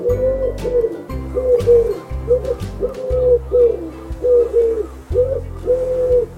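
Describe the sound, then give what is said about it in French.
Pigeons coo continuously in overlapping, low throaty phrases that swell and fall in a steady rhythm, fairly loud, with no talking. “Donc je vais vous laisser avec des vrais roucoulements, les voici.”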